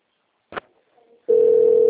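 telephone ringing tone

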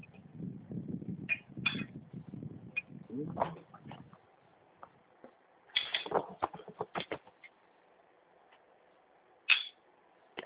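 keyboard typing

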